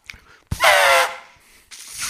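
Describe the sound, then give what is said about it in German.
A voice imitates an elephant trumpeting: a loud, brassy, horn-like blast with a wavering pitch, followed by a softer, breathier second blast after a short pause. “Das, war das gerade ein Elefant?”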